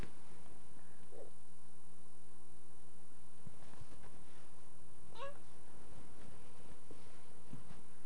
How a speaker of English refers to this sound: That's that one kitty. That's that one kitty.